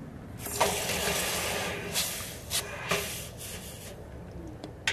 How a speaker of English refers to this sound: And you can see steam coming out of it, and that is because the metal is hot enough to boil the water on contact.